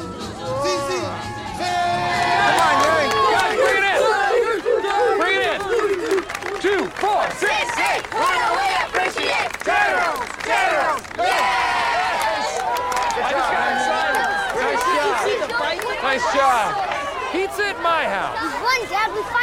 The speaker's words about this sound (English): It flies into the goal. The Tigers cheer and celebrate.